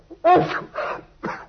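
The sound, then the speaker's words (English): A person sneezes after taking snuff, a voiced wind-up followed by a couple of sharp, breathy bursts in quick succession, fairly loud with no talking around it. “Bless you, my dear fellow.”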